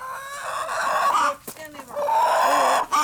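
Chickens cluck and a rooster crows in two long, strained bursts while hens are being chased in, with a brief pause between the crows and a noisy barnyard ambience around.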